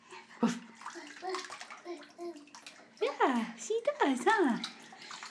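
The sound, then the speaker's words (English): Water sloshes and splashes in a bathtub holding toy ducks and other toys while a 16-month-old boy babbles and lets out high, swooping squeals, louder toward the end. “he is in the bathtub with all his little ducks and his little toys that he can put together.”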